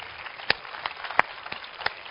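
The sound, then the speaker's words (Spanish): Thin, scattered applause from an audience: a few distinct claps stand out at a slow, uneven pace over a soft bed of lighter clapping, moderately quiet and with no talking. “Ahora sí que deberíais de aplaudir.”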